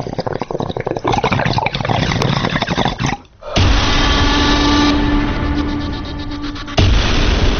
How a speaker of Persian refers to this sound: قلیان ها برای چه کسی قلقل میکنند؟ یا قلیان شناسی با تنباکوی فرد اعلا و زغال دو آتیشه؟